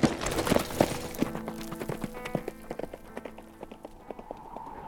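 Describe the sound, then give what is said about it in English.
Horse hooves clip-clop in a steady, rhythmic gait as a rider departs, the hoofbeats distinct, continuing throughout with no voices. “Get you a fresh horse and ride into town,”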